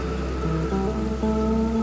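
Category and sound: nature, rain falling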